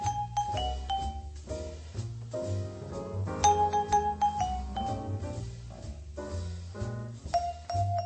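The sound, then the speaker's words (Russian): Bright vibraphone notes ring out one after another, each tone sustaining and slowly fading, dying away fully only 8-10 seconds after the strike, over a steady low bass line, with no voices present. “Он просто-напросто необходим, так как звук вибрафона очень продолжителен и окончательно затухает лишь через 8-10 секунд после удара.”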